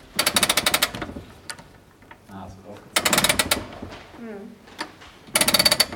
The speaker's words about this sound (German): Und dann müssen wir erstmal eine Feder im Inneren aufziehen.